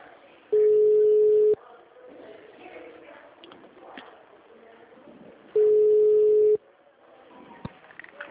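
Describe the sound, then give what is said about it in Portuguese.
Two long, steady telephone ringback tones, each about a second, separated by several seconds of quiet line noise, with a faint click near the end, as a call is transferred to Unimed's commercial line. “Aguarde, sua ligação será transferida.”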